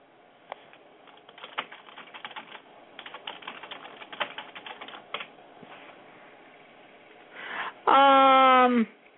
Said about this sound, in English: What are you typing? I can hear you typing away. What are you typing?